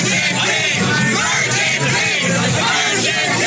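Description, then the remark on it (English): A dense crowd cheers and yells continuously at the Survivor Know-It-Alls after party in New York, many voices overlapping in a loud roar of whoops and shouts with no pauses. “When you first you had to have caught some of the clip of when we were all in New York and we were at the Survivor Know-It-Alls after party and a throng of people were cheering.”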